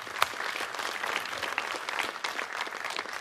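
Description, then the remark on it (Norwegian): An audience in Credo-kirken church applauds the church's live production team, a dense, steady patter of many hands clapping at once, with one sharp louder clap near the start and the sound holding evenly throughout. “Kan vi gi et klapp for de?”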